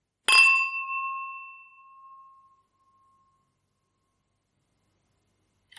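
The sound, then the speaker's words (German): A single bright clink of wine glasses touching as people are about to taste a wine, followed by a clear, sustained ringing tone that slowly fades over a couple of seconds, with no talking. “Die Gläser, die klingen halt auch ewig.”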